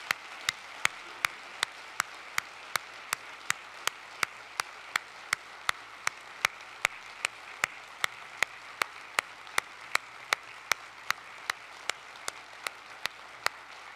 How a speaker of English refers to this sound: And with that in mind, I would like to ask all those who are veterans to please stand at this time. May we give them what they deserve, and that is a loud applause and thankfulness this morning.